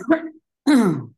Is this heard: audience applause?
no